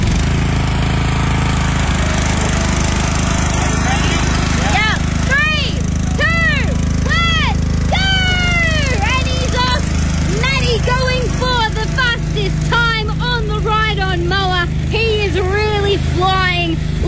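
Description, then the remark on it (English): A ride-on lawnmower engine drones steadily and loudly throughout during a ride-on lawnmower time trial in Sandgate, while excited voices call out over the running motor in the later part. “in the humble sport of ride on lawnmower time trials.”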